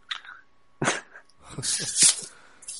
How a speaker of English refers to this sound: I hear a dog whining. Should I be worried? No. Alright. He's just picky. A little Yorkie.